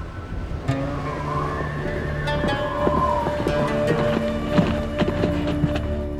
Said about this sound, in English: When Sarah Leah heard the sound of horses' hooves outside